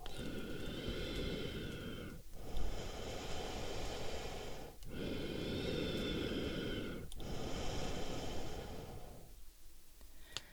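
Slow, heavy breathing of a sleeping person, fairly loud, with long airy breaths repeating in a steady rhythm about every two seconds and no talking.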